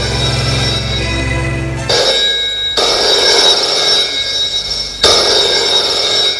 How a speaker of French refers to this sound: Dans la matinée, le téléphone sonne dans la chambre